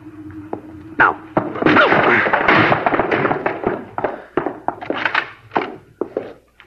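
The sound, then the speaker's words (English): A house door is forced open with loud thuds and a splintering crash, followed by scattered knocks and footsteps as the noise settles into sharp, irregular impacts. “All right, now I'll take the door. When we get inside, you go to the left.”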